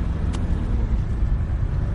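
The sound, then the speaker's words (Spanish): A car engine hums and rumbles steadily as the vehicle drives through narrow streets, following a driving-school car, a continuous low drone with one brief tick early on and no voices. “Finalmente arranca y Asher le sigue conduciendo el vehículo de su padre.”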